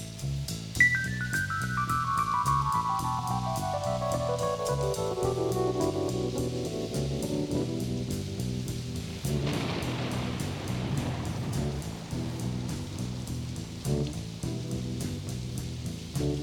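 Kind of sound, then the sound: nature, rain falling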